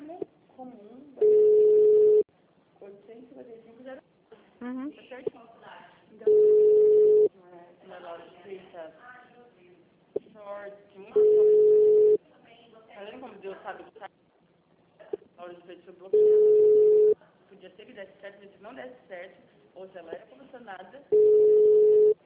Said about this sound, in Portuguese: Nossa, ninguém atende o telefone.